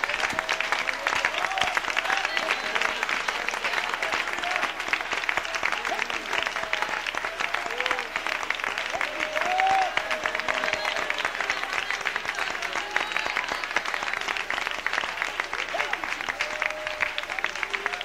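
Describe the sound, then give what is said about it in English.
An audience stands and claps their hands to the Lord Jesus Christ in steady, dense applause that holds loud and even throughout, with scattered voices calling out faintly underneath. “Let's stand and clap our hands to the Lord Jesus Christ.”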